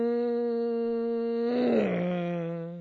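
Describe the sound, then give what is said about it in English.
A voice imitates a race car going by to demonstrate the Doppler shift while explaining redshift: a steady, buzzing high-pitched drone that swells louder, then drops sharply in pitch and fades slightly. “All right, let's say you've got a race car coming by. It goes like this.”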